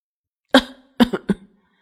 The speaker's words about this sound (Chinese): 一个黑衣人被呛得直咳嗽